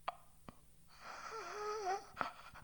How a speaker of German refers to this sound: Luft holen ohne Worte, Luft schnappen wie ein Fisch auf dem Sand. Leben wollen, überleben wollen, die Durststrecke bis zum ersten Laut.